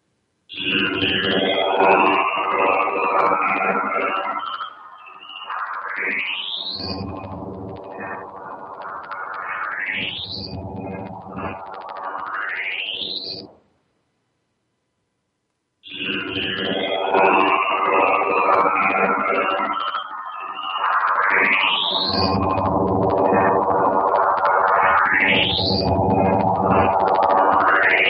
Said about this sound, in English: The sound was on the Cassini website. The same radio signal now raised in pitch by 12 tones in Cool Edit Audio Editor.